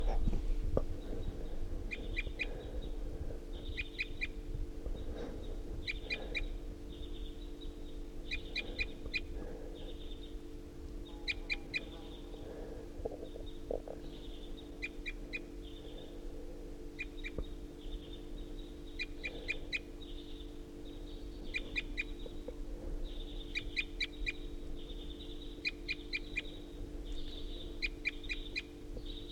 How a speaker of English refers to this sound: It's recording at 7:31, and this is a wild bird perched up on the top of a tall ponderosa pine.